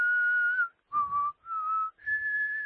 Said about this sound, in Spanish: El silbido de la muerte ha sido este.